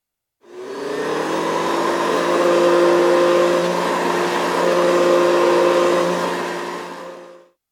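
A vacuum cleaner whirs steadily for several seconds as a maid cleans at an inn, a loud rushing drone with a constant motor whine that swells slightly midway, then cuts off; no voices are heard.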